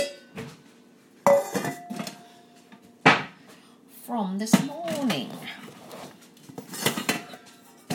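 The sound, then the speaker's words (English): Dishes and cutlery clatter and clink in irregular bursts as a person unloads the dishwasher, with sharp loud knocks like plates set down and a cupboard shutting, while the person talks intermittently over the clanging. “The dishwasher from this morning.”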